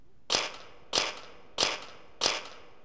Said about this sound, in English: Scissors.